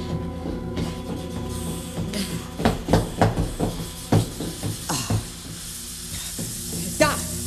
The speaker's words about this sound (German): Kommt aus dem Badezimmer. Du lieber Himmel. Das ganze Badezimmer steht ja unter Wasser. Das Waschbecken läuft über. Dreht doch den Hahn zu.